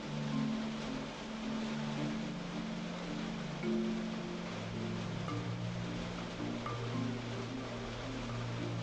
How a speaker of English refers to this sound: Anyways, it's still raining.